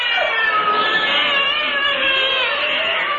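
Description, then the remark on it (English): Several police cats following a scent meow and yowl at once in a loud, continuous chorus, their wavering, overlapping cries filling the whole stretch without any pauses or talking. “They were replaced by police cats who were soon hot on the Kippet scent.”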